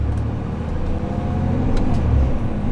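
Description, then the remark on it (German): Deep, steady diesel engine rumble heard from inside a diesel bus as the floor vibrates, a continuous low drone with faint rattles and road noise, loud throughout, no talking. “Für Komfort steht der Diesel nicht, dafür für Zuverlässigkeit.”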